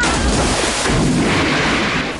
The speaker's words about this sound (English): He then plunges into the water in a belly flop.